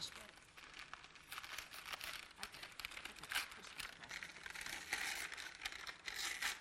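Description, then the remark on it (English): The first layer of paper wrapping around a book being ripped open and crinkled, a steady run of dry crackling and tearing that keeps going for several seconds, with faint voices in the background. “Just rip it open.”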